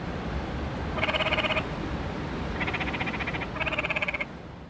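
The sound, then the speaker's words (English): Frogs call at night at a camp along river rapids, in three rapid, trilling bursts, each a buzzy pulsed croak lasting under a second, standing out clearly over a steady wash of background noise with no voices. “Frogs call to each other as we fall asleep.”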